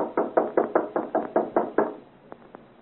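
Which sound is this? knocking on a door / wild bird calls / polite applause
knocking on a door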